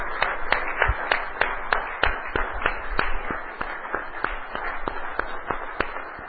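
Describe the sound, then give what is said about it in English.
An audience claps hands for Jesus in a steady, brisk rhythm, sharp unified claps about three per second over a dense wash of scattered clapping, sustained throughout. “We are going to clap our hand for Jesus because he's between us at this time.”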